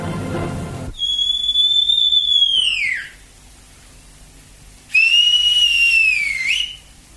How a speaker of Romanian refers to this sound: Aici, în pădurile Alpilor, departe de lâncezeala și luxul cetății, domnesc legile luptei. Tăcerea nopții e spintecată de un șuierat.